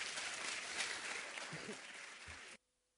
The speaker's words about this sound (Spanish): Agradecemos a esta mesa de autoridades y los despedimos con un fuerte aplauso, augurándoles un arduo y próspero trabajo hacia adelante, el cual nos conmueve, nos incentiva, nos emociona.